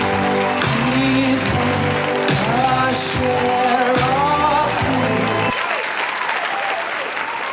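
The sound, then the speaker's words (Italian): Dense, steady studio applause during a song quiz fills the whole stretch, a continuous hiss of many hands clapping, with a low tonal music-like hum underneath for the first five seconds before the clapping continues alone. “Un applauso dall'interno dello studio e anche dall'esterno.”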